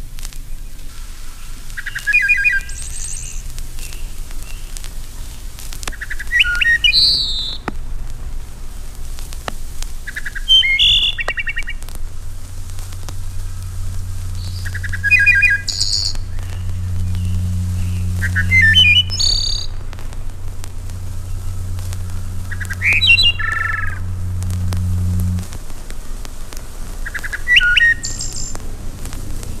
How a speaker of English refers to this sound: Right now, expect the unexpected. Here is The Wood Thrush. Wood thrush.